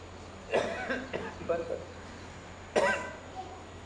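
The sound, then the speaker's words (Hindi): A person coughs in a short cluster of three or four quick coughs, pauses briefly, then gives one more sharp cough, moderately loud over a faint steady hum. “खांसी आ रही थी।”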